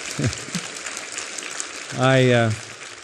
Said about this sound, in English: I didn't say that for you to applaud, but I'm grateful.